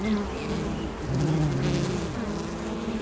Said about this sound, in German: Ein hässiges Volk sieht das, sagt er. Um die Bienen zu beruhigen, will er ihnen eine Wabe geben mit einer Königin, die noch nicht geschlüpft ist, eine sanftere Königin.